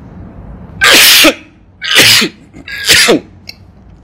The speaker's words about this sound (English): Sorry for my coughing.